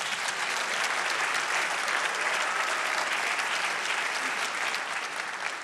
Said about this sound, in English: Praise God. You can give God a hand clap.